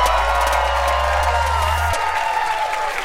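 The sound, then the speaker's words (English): A live audience cheers and applauds in a dense, steady roar of clapping and voices that holds at an even loudness for about three seconds, with a low hum running underneath. “You guys are such a beautiful crowd. Are you guys having fun?”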